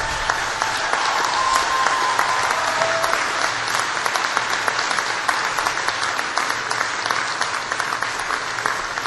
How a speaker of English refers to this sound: Now, class of 2015, please stand up. I'm going to put you to work just for a minute here because I want you to look around and give a big round of applause for all the people who are here who have supported you.